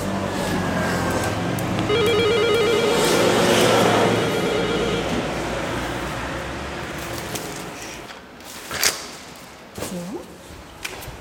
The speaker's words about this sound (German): Können wir hier schnell läuten?